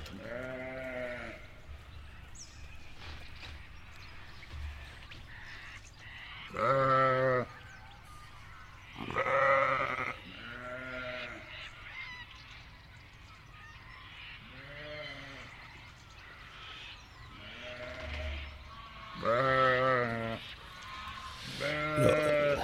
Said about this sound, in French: C'est le moment où on donne à manger aux moutons. Les Suffolk Sheep, les moutons de Suffolk. Et tout ça se passe à Littlehampton, en Australie du Sud. Ça a de la conversation, les moutons.